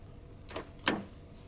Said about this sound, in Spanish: Se dirigen al coche. Mae abre la puerta del copiloto.